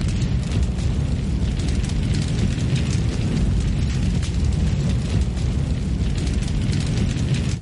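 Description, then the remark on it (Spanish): A gasoline fire burning soldiers' bodies erupts into a steady, deep roaring rumble that stays loud and dense throughout, with a crackling hiss above the low roar and no distinct separate blasts. “En fuego a la gasolina. Los cuerpos arden.”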